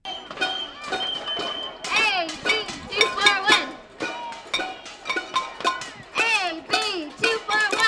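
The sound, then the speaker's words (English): Household workers from different states bang pots and pans in front of the Los Angeles State Building on Spring Street in downtown Los Angeles, a steady, uneven clatter of sharp metallic clangs, while many voices shout and chant loudly over the din. “Household workers from different states were banging away in front of the Los Angeles State Building on Spring Street this morning.”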